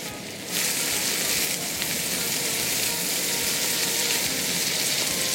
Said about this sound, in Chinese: 那盛出来之后啊，那锅子其实也不用洗，就直接就把那个萝卜丝爆的萝卜丝啊， 就把它放下锅里，哎对，然后就把它炒。